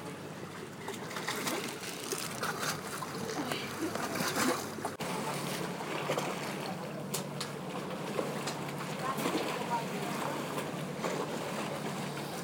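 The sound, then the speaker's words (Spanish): Water of the blue lake laps and sloshes steadily against the hull of a small boat on a hot day, a continuous wash of gentle splashes with no clear pauses. “Eso es el agua del lago azul, chocando con nuestro barquito, que era el Morgan o algo así”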